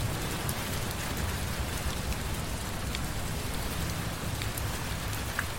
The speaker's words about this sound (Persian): اوه چه بارونی شد.